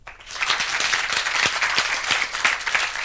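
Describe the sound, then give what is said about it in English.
An audience breaks into sustained applause for a speaker being introduced at a talk, a dense steady wash of many hands clapping at a fairly loud, even level throughout, with no voices standing out. “So without further ado, please applause for Steph.”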